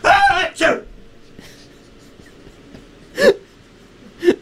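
Loud, explosive sneezes: two quick bursts back to back, a pause, then two more sharp sneezes, each harsh and breathy against a quiet background.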